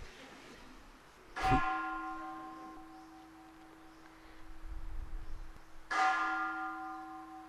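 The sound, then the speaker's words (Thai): A bell is struck twice, several seconds apart, each strike a bright clang that blooms into a long, shimmering ring of steady overtones slowly fading. No one speaks. “จิตใจหนีไปฟังเสียงระฆังซิดูว่าจิตไหวไหมเขาเลิกตีไปเลยฟังออกไหมเห็นความไหวของจิตบ้างไหมเอาเอ ตีอีกสองที”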